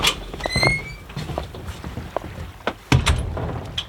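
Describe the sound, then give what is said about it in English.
The door of an old car on an island, its handles broken, creaks open with a high squeaky whine early on, followed by scattered metallic clicks and rattles and a sharper clunk near the end, with no talking. “There's no handle on this door”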